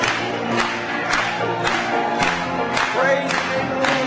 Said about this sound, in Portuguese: Batamos palmas para ele hoje à noite.